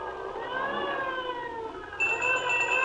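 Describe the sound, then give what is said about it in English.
Fire engine sirens wail as one engine and then another head out after an alarm: a slowly rising and falling pitch, then a second, higher and steadier siren tone joins in partway through, both loud with no talking. “There goes one engine. There goes another. Must be quite a big fire.”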